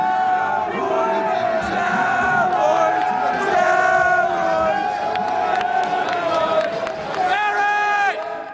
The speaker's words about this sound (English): Besides, Bonds is drawing crowds, even if they taunt him with chants.